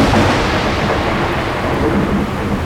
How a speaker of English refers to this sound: it began to rain. But Kindelach, a rain that no one had ever seen in their lives. It was pouring.